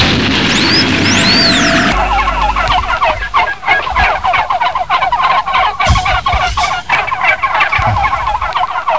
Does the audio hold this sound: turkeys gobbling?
yes